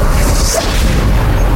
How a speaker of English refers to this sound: The plane explodes behind you.